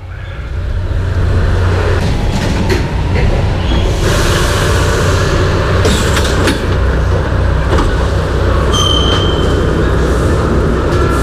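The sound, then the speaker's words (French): A metro train rumbles loudly and steadily throughout, with rattling wheels, occasional clanks and a brief high metallic squeal late on; no voices are heard. “on va illustrer la chanson avec des bruits de métro, des machins, ça va être marrant.”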